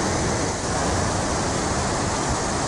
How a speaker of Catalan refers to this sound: A dau que sonaue, s'escutaue, era riu Garuna. Difícil d'imaginar-se aquesta sung sense veir les imatges d'era riu baixant tot l'ample que podia i de mi a força que arrossegaue peires, cotxes i també ponts i cases.